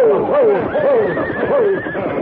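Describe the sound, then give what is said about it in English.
A horse from a frenzied team of horses, one of which was singed by a bullet, neighs in several shrill, wavering bursts, its whinny rising and falling over a steady rumble of background noise. “I think a bullet singed one of the horses.”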